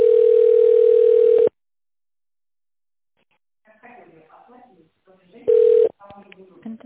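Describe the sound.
A steady, mid-pitched telephone line tone hums loudly for over a second during a call to the company Novye Trubnye Tekhnologii while waiting for an operator, then cuts to silence. A voice speaks, a short burst of the same tone sounds, and talking resumes.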